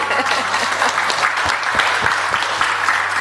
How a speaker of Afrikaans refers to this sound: Kom, ons geef hulle lekker aan die klap.